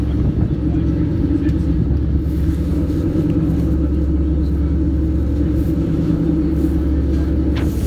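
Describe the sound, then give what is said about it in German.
Strong wind buffets the microphone aboard a ferry, a steady, heavy low roar with constant rumbling and no pauses, mixed with the deep drone of the boat's engine. “Ja, oh, ist jetzt ganz schön windig.”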